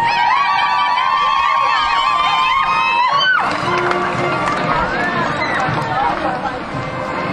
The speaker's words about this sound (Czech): Mistriňáci, potlesk je pro vás. Ale je to zajímavé, mistriňáci muži mlčí a ženy se hlásí o slovo s divým jucháním. Samozřejmě ženy jste nepřehlédnutelné a asi to tak patří. Pokud muži mlčí, musíme promluvit my ženy. Potlesk pro ženy z Mistřic.